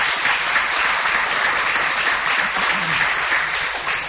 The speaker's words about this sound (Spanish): Entra, que entra aplaudiendo ya.